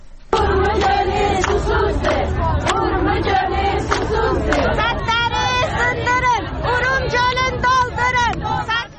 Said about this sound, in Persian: با تجمع در برابر اداره کل منابع طبیعی و آبخیزداری خواستار احیای دریاچه ارومیه شدند و نسبت به پیامدهای خشک شدن این دریاچه هشدار دادند. شرکت کنندگان در این تجمع به زبان ترکی شعارهایی از قبیل ارومیه تشنه است و سدها را بشکنید دریاچه را پر کنید سر دادند.